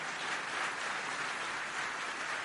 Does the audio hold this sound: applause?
yes